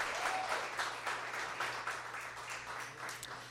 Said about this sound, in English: Awesome. How about another round of applause for our artists